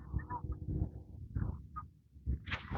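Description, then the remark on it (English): Geese honk in a few short, nasal bursts over a steady low rumble of traffic at a torn-up intersection beside a park, ending in a brief hiss of noise. “I hear geese.”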